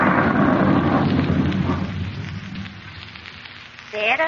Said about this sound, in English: Well, I'm going in. I don't like storms.